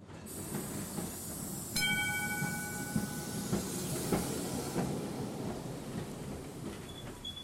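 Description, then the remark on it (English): A tram rolls steadily along its rails with a continuous rumble and hiss, scattered clacks over the joints, and a brief high metallic squeal partway through. “18% were killed by trams in and around Sydney, the old steam trams that were first introduced, and then later on electric trams.”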